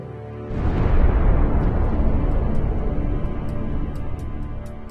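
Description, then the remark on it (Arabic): A loud fireworks explosion bursts suddenly and rolls into a long, deep rumble that fades slowly over several seconds, with faint crackling at the end and no voices. “ألعاب نارية هذه يا بابا؟ ألعاب نارية والله.”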